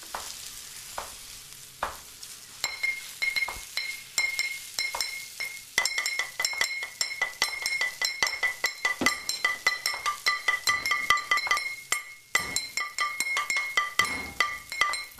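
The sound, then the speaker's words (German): In a kitchen, plates, spoons, a pan and old glass bottles clink and clatter busily, a dense run of ringing metallic and glassy strikes over a faint sizzling of food cooking, with no talking. “Hier gibt's Teller, Löffel, eine Pfanne, alte Flaschen, einen Ofen, brutzelndes Essen.”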